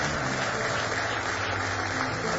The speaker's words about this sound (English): Give him one more hand clap of praise this morning.